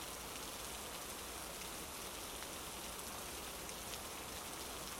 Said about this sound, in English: I know I was complaining a second ago, but I like the rain. Makes the world feel quieter. like everyone else has to shut up for a minute.